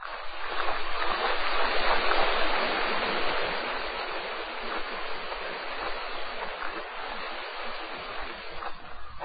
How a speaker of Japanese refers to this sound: 白み始めた静けさの中、谷間に由良川のせれとが絶え間なく響き渡り